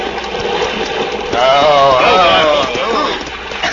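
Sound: rushing water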